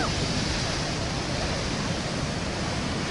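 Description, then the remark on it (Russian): A steady, dense roar of ocean surf breaking on a beach with surfers and tourists, under a grey, steel-coloured sky, loud, filling the whole clip with rushing, hissing water and no voices. “Ну что, надо сказать, что и в понедельник, друзья, здесь, как и в любой другой день, океан, серферы, серперы, туристы. Оп, волна.”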